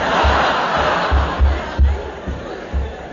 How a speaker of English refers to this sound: It's just those noisy people in the tent upstairs.